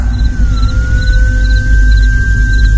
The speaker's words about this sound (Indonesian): Iya, suara sirene ambulan itu semakin lama suaranya terdengar semakin keras.